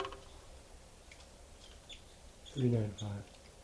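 A recorded bird call, played back, in two parts: a strong harmonic note followed by a shorter one, with faint high chirps before them over low background noise.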